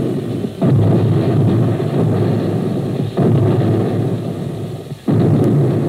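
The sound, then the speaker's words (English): Depth charges exploding underwater: three heavy, booming blasts spaced a couple of seconds apart, each followed by a loud, sustained low rumble that fills the gaps, with no voices. “And you hear the depth charges.”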